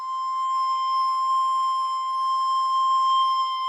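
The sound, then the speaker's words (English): A single high, whistling note on a recorder, held steadily for a few seconds at an even, fairly strong volume, pure-toned with faint overtones and no voices. “We also heard some whistling. Was that you too? Yeah, I was playing a high note.”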